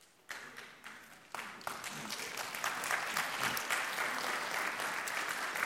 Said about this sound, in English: If you're clapping this morning, that means you're going to start doing it.